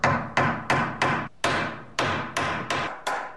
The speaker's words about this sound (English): Then we proceeded to pound about 1,000 nails into braces, where there was barely enough room to swing a hammer.